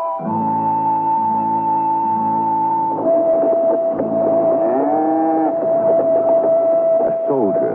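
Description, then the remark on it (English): A reluctant steer, pulled by a soldier riding a horse across a desolate Wyoming plain on a raw, bitter day in 1868, lets out a single long, drawn-out low partway through, rising and falling in pitch over a steady whistling, wind-like drone that runs the whole way. “Behind him, the soldier pulls a reluctant steer.”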